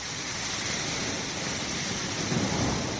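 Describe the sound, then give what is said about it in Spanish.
A heavy downpour of rain and hail in Briviesca, Burgos, roars steadily and densely throughout, a constant wash of pelting noise with a low rumble underneath and no voices; the storm is flooding the town. “Una tromba de agua y granizo inundaba Briviesca en Burgos y obligaba a cortar el tráfico en la AP1.”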